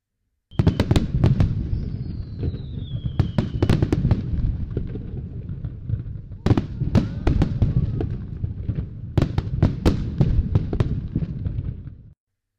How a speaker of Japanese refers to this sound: さ、花火も佳境です。最後は大きな花火が連続で上がるので、綺麗ですよ。